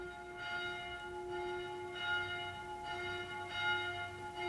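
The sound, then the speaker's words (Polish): A church bell rings the noon Angelus, struck about every second and a half, each stroke blooming into a long, humming, overlapping resonance, with no voices present. “Południe. Przecież. No, anioł pański. Pewnie będzie i o 15 na kolejną modlitwę.”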